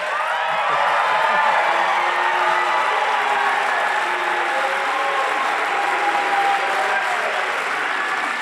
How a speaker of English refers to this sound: Why are you booing him?